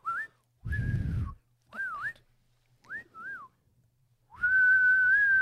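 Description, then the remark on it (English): A person whistles a series of short calling notes to call a horse, like Gandalf calling Shadowfax: rising and falling swoops and brief bursts, ending in a long, loud sustained whistle, with some low breathy rumble behind several notes. “Do you think they would whistle for shadow effects that way?”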